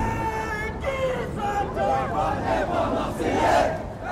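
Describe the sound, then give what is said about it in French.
A large crowd of Olympique de Marseille supporters chanting together at the Vélodrome stadium in Marseille, France, before the match against Olympique Lyonnais on 6 December 2023: a loud, sustained roar of many voices with rising and falling sung phrases and swelling cheers. “Donc tous ensemble, les gars, bien fort.”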